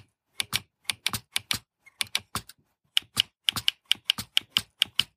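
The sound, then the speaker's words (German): Loud, sharp clacking of the navigation bar keys on a Braille display, pressed right and left and then up and down, in an uneven string of single taps and quick bursts, with a brief pause midway before a faster run of clicks. “Und jetzt gehe ich auch mal mit der Navigationsleiste.”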